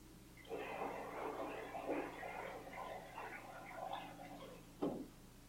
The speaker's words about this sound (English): That's a perfect example, the flow of water. Probably attention moved toward the water.